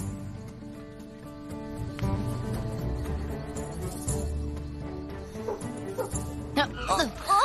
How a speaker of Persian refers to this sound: تو هم شنیدی صدای پارس کردنه؟ نه. یه سگ لاسی. چیزی نشنیدم. صدا از دور اومد ولی لاسی بود، از اونجا صدا اومد.